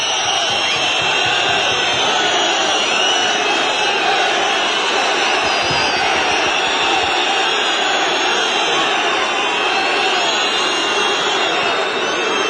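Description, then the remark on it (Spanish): A football stadium crowd whistles loudly in protest at the referee from Córdoba as the players leave for the dressing room: a dense, shrill wall of high-pitched whistles over a roaring rumble of voices, sustained without a break. “Y ahora sí, vais a escuchar la pitada del público al colegiado cordobés.”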